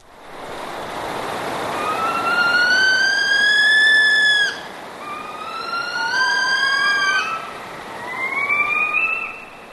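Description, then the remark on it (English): Saw-whet owl contact or agitation calls, recorded at a bird banding station: three drawn-out, whining wails with a rising, siren-like sweep and rich harmonics, the last one shorter and fainter, all over a steady hiss of background noise. “Those are contact calls or agitation calls that the birds give when they hear this tape being”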